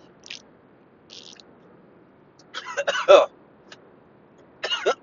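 Someone splutters and coughs after a sip of coffee goes down the wrong way: a couple of faint breathy sounds, then a loud cluster of harsh, rough coughs, followed by another short coughing burst.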